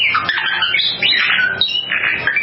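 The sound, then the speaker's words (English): A family's pet bird squawks and warbles continuously, loud shrill whistles and chirps sweeping up and down in pitch like electronic beeps, mimicking a movie robot character, with no one talking. “a family's pet bird who mimics his favorite Star Wars character, R2-D2”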